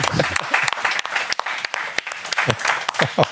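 A crowd claps steadily for a few seconds, a dense patter of many hands with some louder individual claps, and faint voices mixed in underneath.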